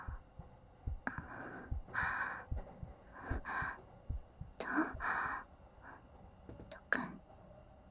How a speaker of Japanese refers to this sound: 僕にも聞こえるかな？私の心臓の音。